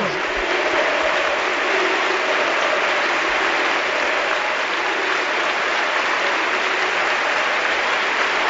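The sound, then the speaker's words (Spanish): A large football stadium crowd at La Rosaleda stands and gives Isco a sustained, dense ovation as he leaves the pitch, steady and loud throughout with a continuous roar of clapping and no clear individual voices. “se levanta la afición de la Rosaleda para despedir con un aplauso y con esta sonora ovación y coreando su nombre a Isco.”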